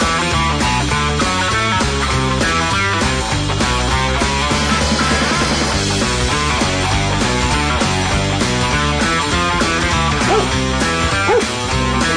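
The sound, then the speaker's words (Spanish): A dog barks and whimpers over and over, loud, with yips and whines running steadily for the whole stretch and no voices. “Esa, ¿qué trajo? ¿Trajiste perro”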